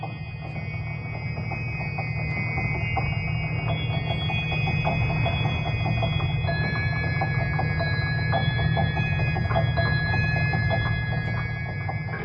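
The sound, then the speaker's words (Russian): An antique mother-of-pearl alarm clock in the Lantern Study by Andrei Voronikhin plays a Mozart melody of high, bell-like chiming tones that shift pitch over a steady low hum, continuing unbroken for about twelve seconds with no talking. “Часы играют мелодию Моцарта.”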